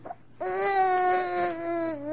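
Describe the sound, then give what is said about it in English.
A newborn baby lying in a crib cries in one long, sustained wail, starting abruptly after a brief quiet moment and holding a steady, slightly falling pitch with strong harmonics throughout. “They heard only the sweet crying of the new baby.”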